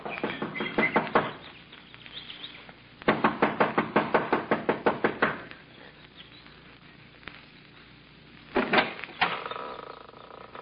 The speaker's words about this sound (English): Kathy Evans, an attractive girl in her early 20s, gets out of the car, runs up the steps of the lodge to the front door. She knocks impatiently, looking about anxiously.